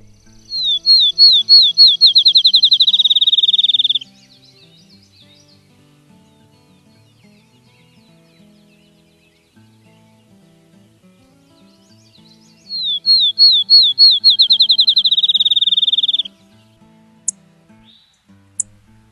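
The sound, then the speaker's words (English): A field sparrow sings twice in a meadow, each song a series of clear whistled notes that speed up into a rapid trill, like a coin spinning down, with a quiet pause between and faint low background rumble. “Wandering through the meadows or fields, and you hear what sounds like a coin spinning down? That's the field sparrow.”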